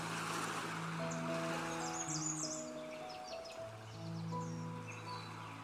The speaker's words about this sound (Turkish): denizi gözlemle bir süre. Dalgalarını durmaksızın kıyıya gönderiyor.